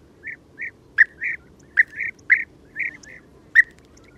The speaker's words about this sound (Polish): Niewiele osób zdaje sobie sprawę, że ma ona całkiem przyjemny dla ucha głos. Jej głos kontaktowy to miękkie, dźwięczne, lekko wibrujące, soczyste fuknięcia.